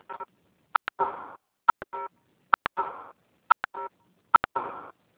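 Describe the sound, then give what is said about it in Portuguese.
Mobile phone keypad tones from someone typing on a phone repeat in about five groups, each a pair of quick sharp beeps followed by a longer buzzy tone, spaced roughly a second apart, with no talking. “Tem um celular fazendo barulho.”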